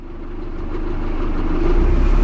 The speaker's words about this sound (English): I'm on a small fishing boat on the waters of the Bosphorus. It's one of the busiest shipping lanes for oil transport in the world.